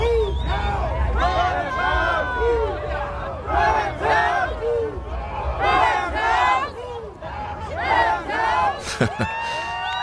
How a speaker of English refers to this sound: Today, there was a sea of blue and gold out in the streets celebrating a big event in LA sports history. The Rams were built to win the Super Bowl, and they have sealed the deal.